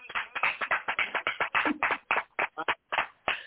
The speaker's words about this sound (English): If you guys agree with her, clap your hands. I'm going to clap my own hands.